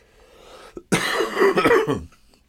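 fake coughing

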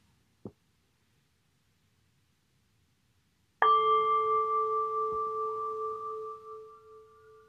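meditation bell ringing

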